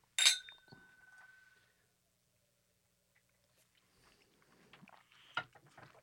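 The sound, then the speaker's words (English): Two glasses of whiskey clink together once in a toast, bright, with a clear ringing tone that fades over about a second, followed by quiet shuffling and handling noises. “All right, cheers. Cheers.”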